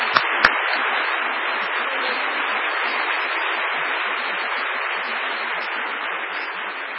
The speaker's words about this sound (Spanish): Entonces, sí, por favor, para la cooperadora. Un aplauso.